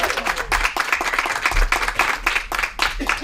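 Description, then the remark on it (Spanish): An audience breaks into steady applause for Julia Medina, who is about to sing with a guitar, many hands clapping in a dense, continuous patter that stays fairly loud for the full few seconds, with a hint of voices mixed in. “Perfecto, pues un aplauso para Julia Medina, claro que sí.”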